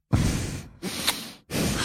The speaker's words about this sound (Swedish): Och som också efter att man sagt att andas ut med näsan så här.